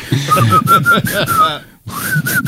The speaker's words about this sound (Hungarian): Nem, az a baj, hogy félig vigyorogni és félig fütyülni, az nem olyan egyszerű dolgám.